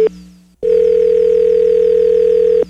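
A telephone ringback tone over a phone line as a call is being transferred: a short burst of tone, a brief silence, then a long steady electronic ring lasting about two seconds, clear and fairly loud with no voices.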